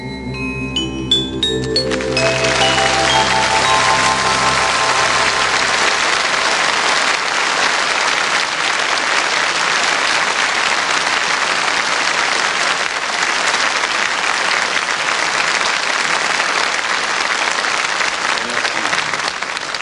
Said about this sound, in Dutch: Ja, bedankt voor het mooie applaus, dames en heren.